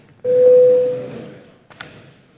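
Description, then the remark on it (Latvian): A parliament voting bell, rung at the chair's request before a vote on a proposal, sounds as a single steady, mid-pitched electronic tone lasting under a second over a low murmur, followed by a brief soft knock. “Lūdzu zvanu.”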